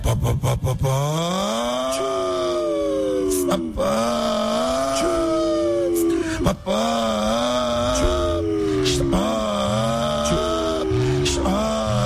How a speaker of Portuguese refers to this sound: Liga esse caminhão logo aí que nós vamos acelerar agora, hein? Opa! Agora sim.